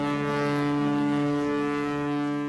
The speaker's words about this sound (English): With its tethers cut, the 100-meter-long vessel rolls into the sea. Built in a year, with its onboard labs equipped with the latest scientific kit, it will eventually explore the world's oceans.